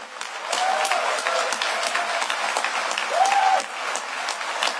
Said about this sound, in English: So I'm going to tell you a little story, and then you guys are going to clap again at about like 9 times the volume for those folks over there.